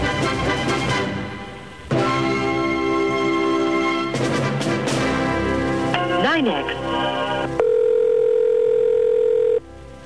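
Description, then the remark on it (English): A telephone line holds steady, loud dial-type tones in several sustained stretches, broken by busier tonal passages and a brief warbling sweep, while waiting for an operator to pick up. “Operator's coming on. He's about to pick up the phone.”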